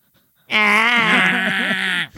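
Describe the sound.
A person imitates a goat's scream: one long, loud, strained cry lasting about a second and a half, buzzy and slightly wavering in pitch before breaking off abruptly.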